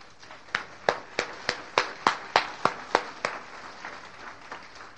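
Applause for the event organizers in a steady rhythm: about ten sharp, crisp claps at an even pace, then trailing off into softer, scattered clapping. No one speaks.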